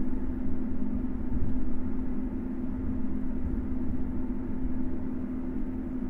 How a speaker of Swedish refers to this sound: Nu stannar tåget helt. Och nu backar det. Det var ju spännande. Och nu stannade. Ja, det här kanske är vanligt när man åker Roslagsbanan. Jag vet inte. Och nu verkar vi vara på gång igen.